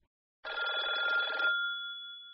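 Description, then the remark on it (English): A single burst of an old-style telephone bell ringing, a rapid metallic trill lasting about a second, then a lingering ring tone that slowly fades, clear with no voices. “Listen to the phone dialogues.”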